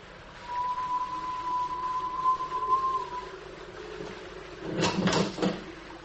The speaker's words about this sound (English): A whistle and a clanging sound, as if a mass of metal had fallen somewhere.